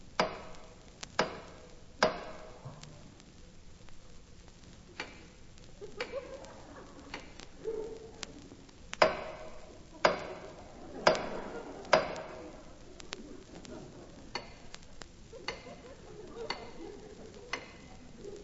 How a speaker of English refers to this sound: For 3 years, he and I communicated by tapping on the water pipe.